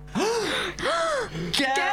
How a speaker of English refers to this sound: You'd be right to gasp.